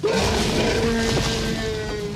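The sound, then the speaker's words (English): A huge, monstrous movie T-Rex roar blares loudly: a single sustained bellow lasting about two seconds with a harsh, rumbling edge and no voices. It was made by combining animal sounds, including a low-pitched tiger sound and a baby elephant. “So if you think about, you know, that iconic T-Rex sound, it was this huge roar.”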